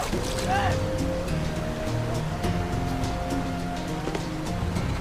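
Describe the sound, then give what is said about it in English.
A loud, steady roar of a raging waterfall at a cliff fills the scene without a break as two young men approach the cliff, with sustained musical tones droning faintly underneath. “The waterfall rages as the two young men approach the cliff.”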